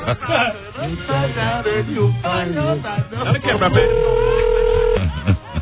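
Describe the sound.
People talk, then a single steady ringback tone from an outgoing phone call to a man who does not pick up sounds for about a second, clear and fairly loud, as if heard through a handset or speaker.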